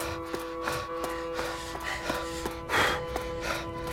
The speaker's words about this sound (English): And as the last heat died, so did the wind. The sea became still, and all they could hear was each other's breathing.